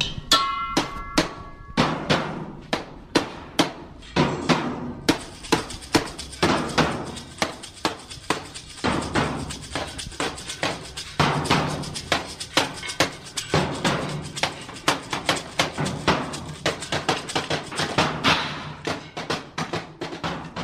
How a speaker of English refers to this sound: Trash orchestra is a cacophony of various homemade, dumpstered, and found objects the players bang upon. On this day, they were constructing their objects of dissonance.